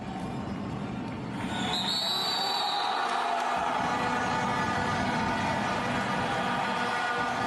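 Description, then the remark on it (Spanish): A loud, dense crowd of football supporters dressed in green chants continuously while bass drums thump steadily underneath, with a few shrill whistle tones cutting through near the start. “Que vuestra afición es de las más fieles, que os acompañan en los desplazamientos, que se visten de verde, con bombos, con vuestro uniforme y que no se callan ni debajo del agua.”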